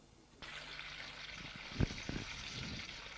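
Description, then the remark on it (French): A shower switches on abruptly and runs as a steady, even hiss of spraying water, with a couple of soft low knocks partway through. “Le dos au mur, la tête droite, le bras le long du corps, le corps qui bat, il entend le bruit de la douche.”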